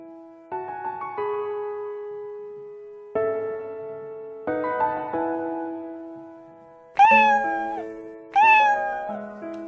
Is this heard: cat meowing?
yes